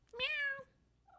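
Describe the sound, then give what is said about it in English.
A single clear cat meow, rising then gently falling in pitch, lasting about half a second before quiet. “Meow. That was perfect. Lenny, you're on the podcast.”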